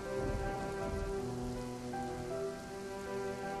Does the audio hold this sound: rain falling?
yes